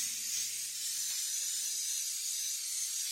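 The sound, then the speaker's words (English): A steady, airy hiss of cooking spray coating a pan for baking macaroni and cheese runs unbroken for about three seconds, with faint low tones humming underneath and no talking. “It's very important when you're making macaroni and cheese that you spray whatever kind of dish you're using, because it will stick.”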